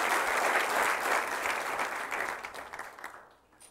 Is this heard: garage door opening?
no